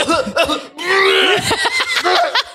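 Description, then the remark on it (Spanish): A voice imitates a heavy, gagging cough that is almost retching: a few harsh bursts, then a drawn-out strained retching groan, followed by more choppy coughs, loud. “Esa tos, que es casi vómito.”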